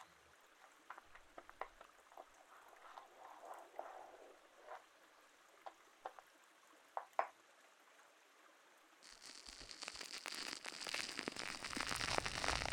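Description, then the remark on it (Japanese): Wet, crackly washing foam squelching and popping in soft bursts, then a denser, louder stretch of bubbly rubbing and fizzing as the lather is worked steadily over the ear to clean off dirt. No one speaks. “作ってくれた泡で耳の汚れを落とします。”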